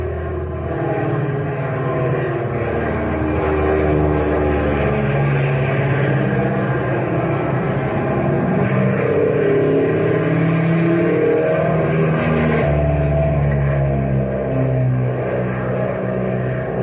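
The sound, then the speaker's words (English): A propeller airplane engine roars steadily and loudly throughout, its droning tone wavering slightly in pitch as it holds in flight, with no voices over it. “What an engine, and she sure handles like a breeze.”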